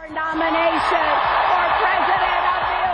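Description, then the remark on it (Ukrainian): A large audience at the Democratic Party convention in Philadelphia applauds steadily for the full three seconds as Hillary Clinton accepts the nomination for US president, a dense, loud wash of clapping with scattered cheering voices mixed in. “Під оплески аудиторії заявила Клінтон.”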